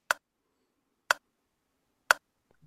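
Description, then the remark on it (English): Three sharp, evenly spaced ticks about a second apart, crisp against near silence, from a 60-second quiz countdown clock marking off seconds. “Right, I'm going to put 60 seconds on the clock, and your time starts now.”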